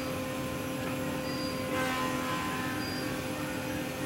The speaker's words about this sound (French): Pour découvrir Détroit, rien de tel qu'une balade en People Mover. Le People Mover, c'est un tramway aérien qui tourne autour de Downtown. Il a été construit en 1993 seulement,